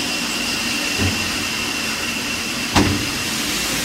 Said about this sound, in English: I suppose the key point in driving a railway steam locomotive like this is communication between driver and fireman at all times.